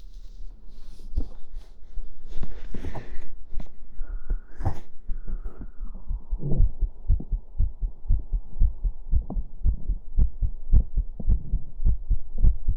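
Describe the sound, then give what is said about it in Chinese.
A steady heartbeat thumps in a regular rhythm throughout, with muffled rustling and scraping noises near the start and a faint background hum. “听一下心跳啊，可能会有点杂音，不要介意好吗？”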